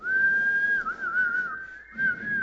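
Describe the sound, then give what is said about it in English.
A person whistles a clear, wavering melody, the pitch sliding gently up and down with a brief dip before continuing, with no talking. “Sometimes we need him to whistle. Do you need him to whistle?”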